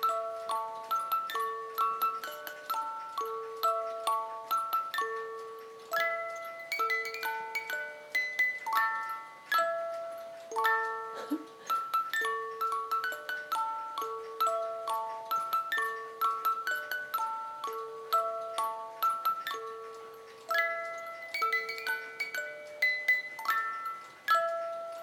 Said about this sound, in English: So if I wind it up, the winder's on the back. I'll wind it up and you can have a listen. I know a couple of you who follow me collect music boxes, so you're going to love this. And the hands on the clock move as it's playing.